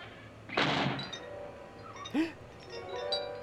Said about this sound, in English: Who closed the door? Oh, mi casa con el viento pasa eso siempre.